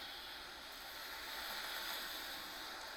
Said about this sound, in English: It's windy out here.